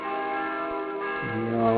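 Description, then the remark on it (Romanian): Bells of Brâncoveanu Monastery ring out steadily, their layered metallic tones sustained and overlapping, with a deeper bell joining partway through to thicken the resonant peal. “Am îndrăgit sunetul clopotelor mănăstirii Brâncoveanu, așa cum alții au îndrăgit sunetele clopotelor de la Putna.”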